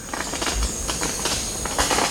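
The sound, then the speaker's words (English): A male Montezuma oropendola, perched beside its nest among Mayan city ruins surrounded by dense forest, gives a run of sharp, crackling pops like firecrackers, irregularly spaced over about two seconds against a steady background hiss. “He sings again, this time with a sound like the pop of firecrackers.”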